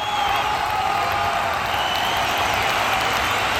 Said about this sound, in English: There won't be any fans at the regular season games either, at least not now. What there will be is recorded cheering.